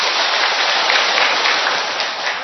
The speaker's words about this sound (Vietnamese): Được, một tràng pháo tay to lên thưa các bạn.